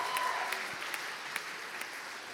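A steady round of applause from a group, dense overlapping claps at an even level for a couple of seconds, with no voices over it.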